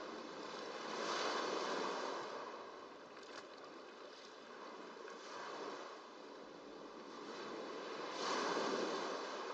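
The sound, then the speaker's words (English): Soft, steady wash of ocean waves rolling onto shore, swelling and receding in slow surges every few seconds, with no voices present. “The field of waves.”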